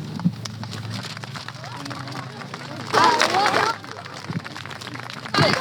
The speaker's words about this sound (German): Voller Applaus, das haben die Kinder super gemacht. Vielen Dank für das.